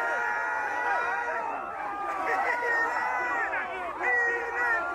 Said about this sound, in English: The crowd can either be united toward a communal purpose or it can be united toward urging a moron to eat horse crap